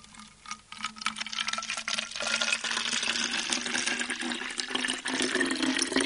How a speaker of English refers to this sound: You want to fill that bottle about halfway up with lukewarm water. So not kettle water, just sort of hand hot? Yeah, sort of 30, 40 degrees centigrade, that sort of temperature.